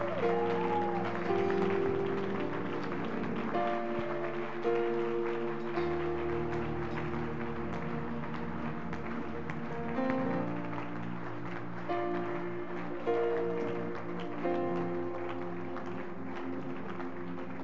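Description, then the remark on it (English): A church audience claps their hands steadily and loudly over sustained keyboard or organ chords and a deep bass line, the clapping blending into the music throughout. “Clap your hands and celebrate the power that makes you overcome that spirit of the leech.”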